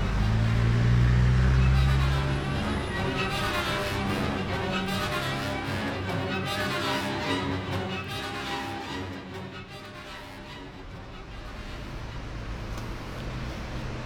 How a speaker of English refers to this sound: Sitting next to me, on an open-top bus pushing east through the middle of London,